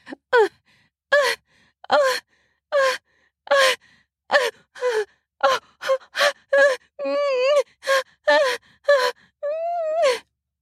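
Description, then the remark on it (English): Steady panting from two people having sex, with short breathy gasps and grunts, broken by a few drawn-out voiced moans, repeating rhythmically about once a second with no spoken words. “We are both panting and moaning, grunting as we fuck.”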